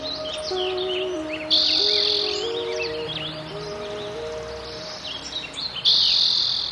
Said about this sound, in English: woods, California buckeyes and oaks, as well as insects and frogs and toads and birds, hawks and ducks, woodpeckers and hummingbirds, robins and swallows and jays and warblers and wrens and finches. And through the middle of the park flowed a stream.